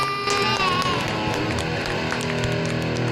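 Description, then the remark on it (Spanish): A loud, steady burst of crowd cheering and clapping, with overlapping shouts and whoops filling the full few seconds without any clear speech. “Bueno, muchos, el aplauso.”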